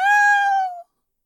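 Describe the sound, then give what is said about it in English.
A single high, thin kitten meow, clear, holding steady for under a second before dipping slightly in pitch and cutting off into silence. “kitten. Meow.”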